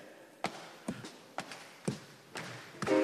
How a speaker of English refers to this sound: So I'm going to need your foot stomping, your hand clapping. And here's the rhythm.